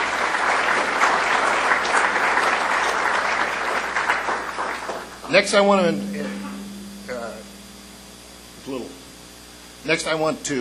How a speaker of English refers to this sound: So give a round of applause, please, for all our sponsors.